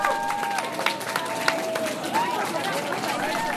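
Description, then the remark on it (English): A crowd of demonstrators and college officials cheers and shouts at Logan Airport arrivals, a steady, dense wash of many voices with a few louder calls rising above it, plus scattered claps throughout, welcoming back college students on a flight from Germany. “That sounds of cheering at Logan, where demonstrators and college officials gathered to welcome back some college students on a flight that landed just this afternoon from Germany.”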